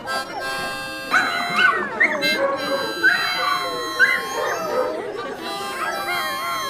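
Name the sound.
dogs barking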